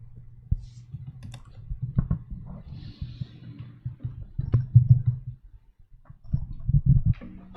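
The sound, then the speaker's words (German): Someone types on a computer keyboard during an online video conference, producing irregular bursts of sharp clicks and taps over a steady low hum, moderately loud, with no voices. “Für den Moment gibt es zumindest im Raum hier keine Fragen, aber da wird nochmal getippt in der Online-Videokonferenz.”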